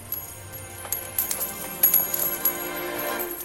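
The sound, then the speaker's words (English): Coins scatter and drop from the overturned tables of money changers in a quick flurry of bright metallic clinks, several overlapping with a faint ringing tail, moderately loud, with no voices. “He overturned the tables of the money changers, scattered their coins.”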